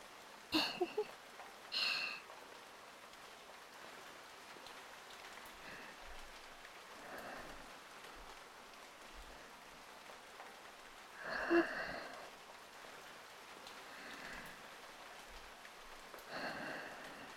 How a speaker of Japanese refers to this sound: ここの答え、なんだかわかる？ここの答えは、雨。